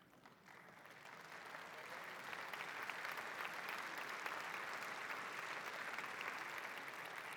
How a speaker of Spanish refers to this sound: Preséntale tu necesidad al Señor y una vez termines, dele gracias y levántale un fuerte aplauso al Señor.